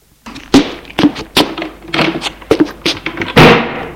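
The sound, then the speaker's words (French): Several heavy thuds and knocks in quick succession, ending with a loud door slam that rings out briefly as a son walks out, slamming the door. No one speaks. “Et le fils sort en claquant la porte.”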